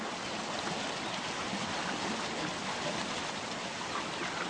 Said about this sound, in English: Flush of fresh water signals the start of a new season.